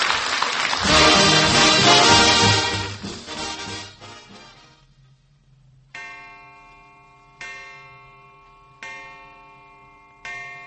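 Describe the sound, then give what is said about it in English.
A clock chime rings four times at a slow, steady pace, each bright metallic strike ringing out and decaying, following a loud, busy swell of sound that fades away. “Great heavens, there's the chime.”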